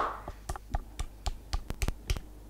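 Scattered hand clapping to welcome a guest star, about a dozen sharp, crisp claps in an uneven rhythm, fairly soft, with no talking over them.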